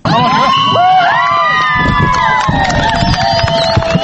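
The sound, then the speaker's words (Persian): A loud crowd of fans of Afghanistan's national girls' football team erupts in cheering after the team's first goal, in the 20th minute of a friendly against a NATO women's military team in Kabul. High excited shouts and whoops rise over a steady roar of voices throughout. “این صدای خوشی و تشویق هواداران تیم ملی دختران افغانستان است که این تیم توانست در دقیقه 20 میدان اول نخستین گل را به ثمر برساند.”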